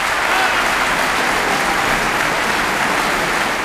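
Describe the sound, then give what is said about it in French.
Sustained, dense applause from a large audience fills the whole clip at a steady loud level, with a few faint shouts of bravo mixed into the clapping, for the musicians and singers of the ensemble Gemelli after performing vespers under Emiliano González Toro at the Grand Théâtre de Provence, Aix-en-Provence Easter Festival. “De riches applaudissements, des bravos pour les musiciens et chanteurs de l'ensemble Gemelli qui ont interprété ces vêpres”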